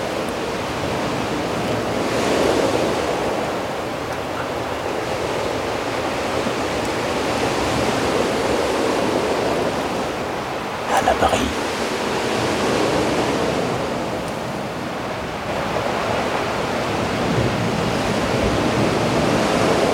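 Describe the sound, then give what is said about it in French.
Steady roar of ocean surf mixed with blowing wind, with waves swelling and washing in continuously and a brief sharper splash near the middle. No voices. “Le vent et les vagues se mélangent si bien.”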